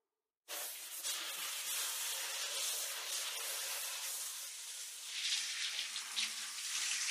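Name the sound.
tap water running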